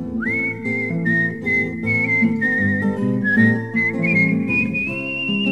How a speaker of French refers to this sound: Mais qu'as-tu donc, ma fille, à siffler, siffler ainsi? J'aime mieux siffler pour un homme que pour mes brebis.